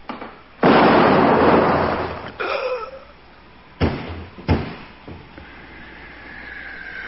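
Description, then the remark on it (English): A loud gunshot from an old pistol from Rio bursts out and rumbles on for a couple of seconds, followed by two shorter, sharp cracks a moment apart, then faint hiss. No one speaks. “Here it is. My pistol.”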